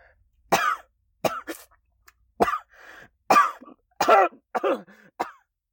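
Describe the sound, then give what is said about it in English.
A loud fit of about seven harsh coughs in quick, irregular bursts, with sputtering throat sounds as someone chokes on water while drinking from a bottle held against the mouth. No one speaks. “That plan didn't last long as I coughed with the bottle against my mouth.”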